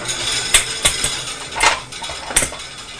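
A metal knife clatters and rattles against a ceramic plate in a few sharp, bright clinks spread over a few seconds, with a faint hiss of background noise between them.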